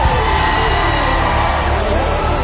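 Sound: audience screaming and cheering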